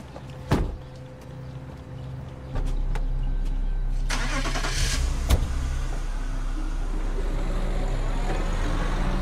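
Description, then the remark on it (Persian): A car engine cranks and starts after a short thump, then settles into a steady low idling rumble with a brief rise in revs, with no talking. “سوار شو. خودم ماشین دارم.”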